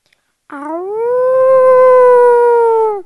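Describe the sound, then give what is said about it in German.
A person gives one long, loud wolf-like howl, rising sharply at the start and then holding a steady, slightly wavering pitch for about two and a half seconds before breaking off. “Warum heulst du denn wie ein Wolf?”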